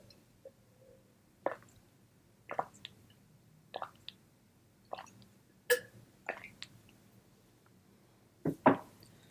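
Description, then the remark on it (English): Someone takes quiet sips of water, with about eight soft wet gulps and swallows at a steady rhythm of roughly one per second. Nobody speaks. “Okay, time for a sip of water before I get into the last 2 categories of my favorites.”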